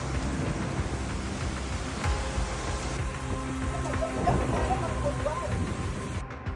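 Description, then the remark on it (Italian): Heavy, torrential rain pours down in a steady, dense roar during a flood emergency in Texas, with faint voices murmuring under it. “Oltre alle piogge torrenziali, diversi tornado hanno attraversato lo Stato e i venti distruttivi si sono scatenati a quasi 35 metri al secondo.”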